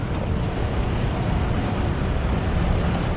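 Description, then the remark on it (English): Steady wind buffets the microphone over a continuous wash of lapping waves along the Dead Sea shoreline in Jordan, a dense, unbroken roar with no voices heard. “I've just come to the Dead Sea.”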